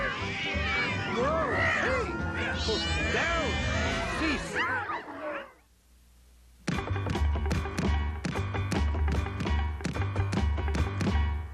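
A cat meows and yowls repeatedly for about five seconds, loud, wavering cries overlapping one another, then a brief hush before steady rhythmic tapping takes over.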